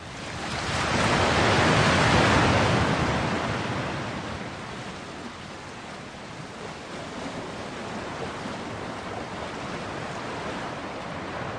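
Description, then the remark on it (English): Ocean waves from an SU1W sound therapy machine: a broad, hissing surge swells loudly in the first few seconds, then eases into a steady, softer wash of surf with no voices. “The next one is waves.”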